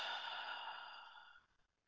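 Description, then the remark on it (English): A single soft, breathy exhale through the mouth after a slow, deep breath in through the nose, steady at first and then tapering away over about a second and a half. It is quiet, with no talking. “And take a slow, deep breath in through your nose and gently exhale through your mouth.”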